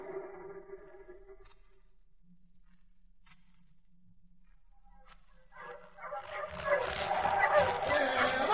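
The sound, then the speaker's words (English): A group of sled dogs breaks into excited barking and yipping, building from a thin whine into a loud, overlapping chorus that keeps growing toward the end. “Hendricks Hope was 400 miles north of Edmonton by dog sled.”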